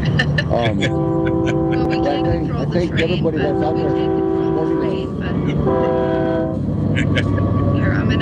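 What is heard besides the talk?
train passing by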